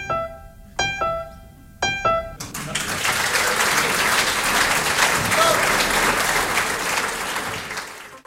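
A few sustained musical chords ring out at the start, then a live audience at a concert recorded live at the town hall of the 10th arrondissement breaks into steady, dense applause that continues loudly for several seconds before tapering at the end.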